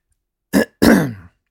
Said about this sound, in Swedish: Varför harklade han sig innan?